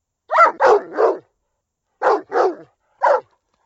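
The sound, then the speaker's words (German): A dog barks six times in three short bursts: three quick barks, a pause, two more, then a single final bark. The barking is clear, with no voices present. “Heute werde ich euch etwas über Hunde erzählen.”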